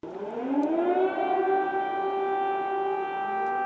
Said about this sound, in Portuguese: Hoje voltou-se a ouvir sirenes de alarme na capital ucraniana.